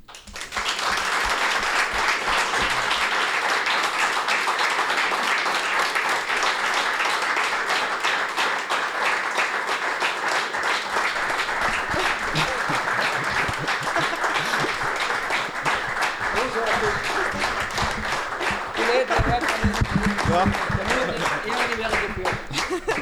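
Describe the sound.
Sustained applause from an audience welcoming a guest onto the stage, a dense, steady wash of many hands clapping at full volume for over twenty seconds, with faint voices and cheers surfacing near the end.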